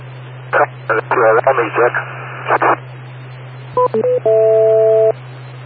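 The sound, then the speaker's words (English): A garbled voice comes over a humming radio channel, then a quick run of electronic beeps at shifting pitches ends in one longer, steady two-tone beep. “wait for the beeps.”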